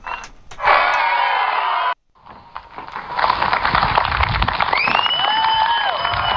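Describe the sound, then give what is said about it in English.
A crowd applause sound effect: a crowd claps in a dense, crackling burst that cuts off abruptly, then swells into a second, longer round of steady applause with a few high whistle-like sweeps near the end. “Applause. Crowd, murmur, background”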